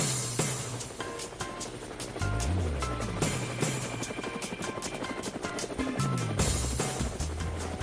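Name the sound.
helicopter flying overhead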